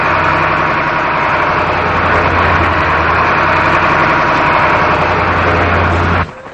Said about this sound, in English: One year later, Ellard is looking out a Department of Corrections bus as it enters Draper Medium Security Prison.